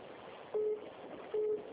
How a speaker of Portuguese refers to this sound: Seu telefone está tocando aí, né? Então, tá tu. Será que é alguém? É, alguém ligando para a senhora.